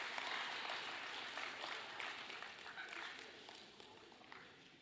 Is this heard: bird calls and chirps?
no